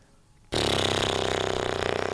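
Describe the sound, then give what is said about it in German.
After a brief quiet moment, a sewing machine abruptly starts running, giving off a loud, steady motor whir with a rapid, even clatter of stitching pulses and no voices. “Das ist Nähen.”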